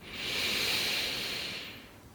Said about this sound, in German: Und wir atmen gemeinsam wieder ganz, ganz tief in den Bauch ein.